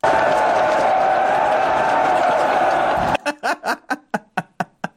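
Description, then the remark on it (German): A large crowd yells in a loud, continuous roar that cuts off abruptly, followed by a string of about eight short, rhythmic shouted bursts. “Ich könnte es mir stundenlang anschauen, ich finde das genial, dieses Geschrei.”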